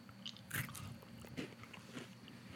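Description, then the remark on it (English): A crisp bite into a crunchy shortbread candy bar with a shortbread cookie bottom, a layer of caramel and milk chocolate, followed by a few more brittle crunches and chewing sounds with no talking. “It's got good crunch. That's good. I like that crunch in there, because it's got like the shortbread cookie on the bottom.”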